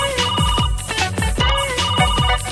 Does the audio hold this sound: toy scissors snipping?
no